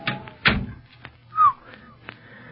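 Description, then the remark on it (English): A recently oiled door is opened and shut, with a solid thunk early on, a brief soft whine, and a few lighter clicks and knocks afterward, with no voices. “Say, that door's been oiled.”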